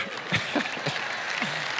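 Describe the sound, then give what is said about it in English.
An audience in a room applauds the speaker steadily, a dense, even wash of many hands clapping at once, with faint voices murmuring underneath. “If you can't hear at least in this room and Alfredo, they're clapping for me.”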